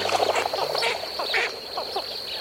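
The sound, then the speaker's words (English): A flock of blue-winged teal ducks lifting off from a marsh call in a busy chorus of short, high peeping notes that overlap in quick succession, with a steady thin whine running continuously behind them. “These dabbling ducks are called blue-winged teal.”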